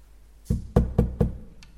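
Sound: knocking on a door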